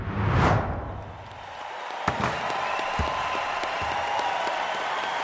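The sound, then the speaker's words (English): A synthetic electronic crowd roar on a digital basketball court, with a giant 2K Games logo above, swells after a quick whoosh, holding a steady, broad wash of cheering while a few sharp thuds and slams punctuate it, like a ball hitting an indoor court. “You step out onto a digital basketball court. The electronic crowd roars.”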